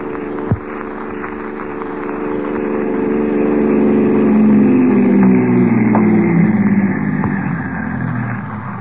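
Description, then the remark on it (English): A car engine rumbles in and settles into a steady idle, its low harmonic drone swelling slightly, with a brief thump near the start. “Oh, here's the car.”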